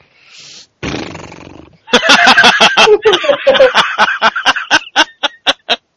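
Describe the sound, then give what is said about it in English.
A loud mouth-made fart imitation: after a breathy hiss, a sputtering vocal raspberry breaks into rapid buzzing pulses that gradually slow and separate into a few final puffs. “Actually, can you make that sound more like a wet fart?”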